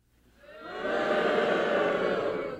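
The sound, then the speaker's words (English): A large audience boos together on request, the sound swelling up over the first second into a loud, sustained collective jeer that holds steady before tapering slightly at the end. “Can we actually, just for audio, get a bunch of you booing?”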